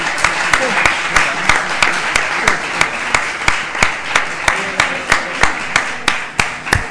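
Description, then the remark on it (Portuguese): A crowd applauds steadily, welcoming champions, with loud, evenly spaced claps about three per second rising above a dense wash of clapping, like an audience clapping in unison for several seconds. “Bom, já vamos entrar no ponto convosco, mas eu pedia que recebêssemos os campeões com uma salva de palmas, com métodos da praxe.”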